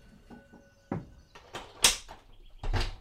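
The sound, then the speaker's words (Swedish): The back door of a garage is handled and then slams shut with a sharp bang, followed by a softer thud; there are quieter clicks and rattles before it and no voices. “Osman hinner inte säga något mer förrän dörren slår igen.”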